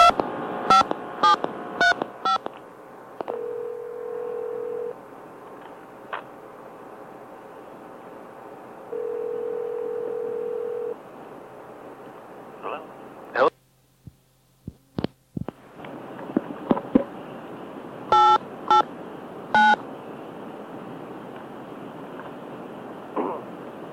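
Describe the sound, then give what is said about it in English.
A quick run of touch-tone telephone keypad beeps as digits are dialed, then a steady phone tone that sounds twice over a low, noisy line hum, with a few more dialing beeps near the end. “Otherwise, it won't sound like a phone call. Well, why do I have to do 7 digits?”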